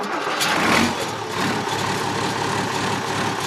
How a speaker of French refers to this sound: Il a 27 ans cette année, alors il faut un peu être au petit soin avec. Qu'est-ce que ce CAS International 5610 a de particulier? Il fait un beau bruit moteur, c'est un 6 cylindres.